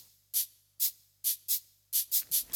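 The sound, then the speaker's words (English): A cabasa shaken in a steady rhythm: seven bright, crisp rattling bursts, two evenly spaced pairs then a quicker run of three, each a short metallic scrape with no voices. “The cabasa plays a rhythm for everyone.”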